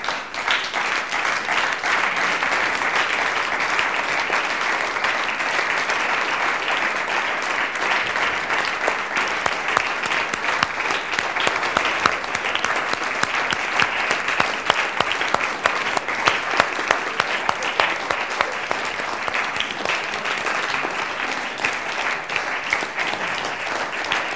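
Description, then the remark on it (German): A crowd applauds staff members invited to the front, steadily for over twenty seconds, a dense wash of many hands clapping at fairly even loudness, with a few sharper individual claps poking through toward the middle. “Weil die haben nämlich auch einen großen Applaus verdient, auch von euch, oder?”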